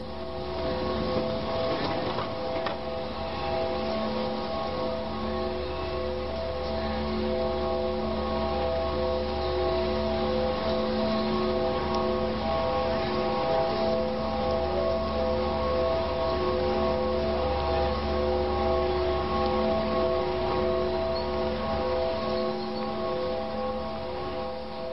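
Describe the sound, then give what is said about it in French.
A drone sound installation by Max Newhouse in Times Square, New York, between 45th and 46th streets: a steady, loud hum of layered low and mid tones that drones on without pause for the whole stretch, with no voices. “C'est une sonorité de drone.”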